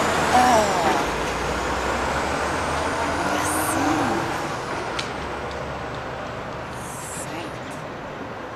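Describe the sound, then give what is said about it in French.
A truck parked below a balcony on Rue Ontario idles, its engine running for 15 minutes, with a steady, low engine rumble throughout, broken by a couple of short high hisses of air, while a person briefly exclaims near the start. “Pas du tout un camion qui est stationné en dessous de mon balcon depuis 15 minutes avec son moteur ouvert.”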